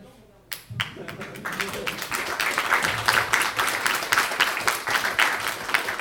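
A burst of applause starts abruptly and builds into steady, dense clapping from a small group, fairly loud, continuing without pause for several seconds.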